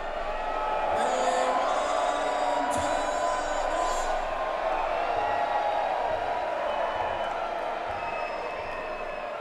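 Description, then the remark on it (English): A live show audience yells and cheers all at once, waving to a man taking pictures of them, a dense, steady roar of many voices with a few higher whoops rising out of it, holding loud for several seconds. “He's going to take pictures of you guys, so I want you all to wave to Khalil and yell something really cool to him.”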